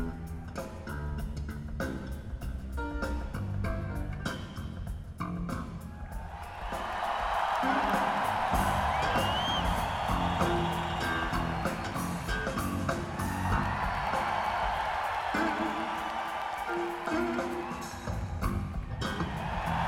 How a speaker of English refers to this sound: So we're going to do a rejudge here. We're going to do it one time. Now, really, go for the one you think is going to win, because right here we're going to disqualify the weakest applause rate.